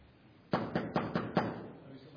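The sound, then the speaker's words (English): Five crisp knocks on a door in a quick, even rhythm, sharp and moderately loud, followed by a short stretch of quiet. “Knock crisply 3 to 5 times.”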